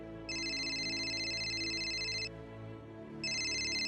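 Ba Du Sinh's mobile phone rings with a bright, steady electronic tone in two long bursts, one lasting about two seconds, then a pause before it starts again, over a low background hum.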